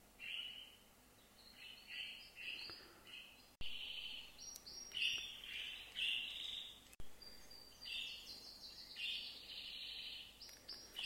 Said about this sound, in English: You listen to the birds.